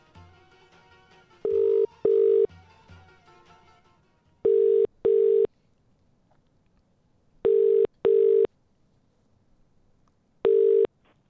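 A phone line rings back in a steady pattern of four double bursts, each a loud, buzzy mid-pitched pair of tones separated by silence, after a brief soft stretch of faint line noise.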